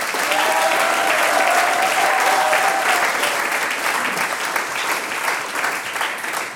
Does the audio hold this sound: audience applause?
yes